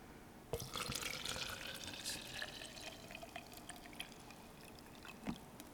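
Water pours steadily into a container for several seconds, a splashing stream whose pitch rises slightly as it fills, with a couple of small knocks and no talking.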